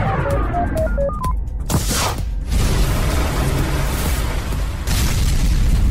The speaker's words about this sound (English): Hey, oh, that looks expensive. The test rocket crashed. Crashing rockets isn't a job I'd want.